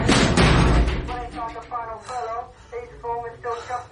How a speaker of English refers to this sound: I kicked the door shut.